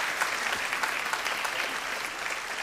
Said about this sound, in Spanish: ¿Por qué no le damos unas fuertes palmas a nuestro Señor?